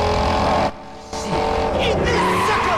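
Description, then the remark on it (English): A loud car engine roars, cuts back briefly, then surges again with a rising, revving pitch as it accelerates hard to 100 on the speedometer, roaring up behind a Challenger, with a hint of tire squeal mixed in. “The speedo reaches 100 as he roars right up behind the Challenger.”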